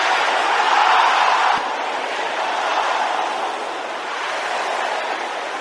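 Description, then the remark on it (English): An audience shouts a prayer in the blood of Jesus all at once, the many voices blending into a dense, continuous roar that swells loudest in the first second and a half, then holds steady. “Can I hear the sisters shouting it?”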